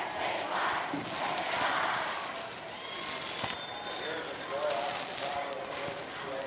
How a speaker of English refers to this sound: Plenty of cheering tonight. Leather-lunged rooters on hand for both teams.